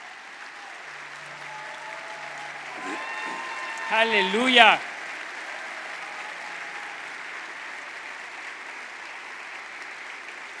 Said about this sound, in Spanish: Vamos a ponernos de pie, vamos a darle un fuerte aplauso al Señor en esta mañana.